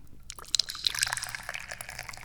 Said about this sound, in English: I'm the chairman of the Dubious Goals Committee, and my main duty is to pour the tea.